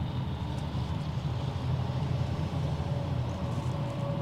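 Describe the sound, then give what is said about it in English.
A heavy cattle truck with a cowbell on its back rumbles by at 4:30, its deep, steady engine and road drone swelling slightly in the middle, with a faint whistle of wind over the top. “It's 4:30, and there goes a cattle truck.”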